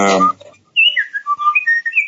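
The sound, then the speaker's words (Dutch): A voice breaks off, then a run of quick, bright, warbling chirps sweeps up and down, birdsong played back on someone's device during a municipal council session, clear over otherwise quiet surroundings. “Iemand heeft nu vogeltjes aanstaan.”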